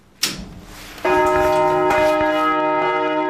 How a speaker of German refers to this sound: Jede Glocke wurde durchgemessen, zum Schluss auch das Vollgeläut.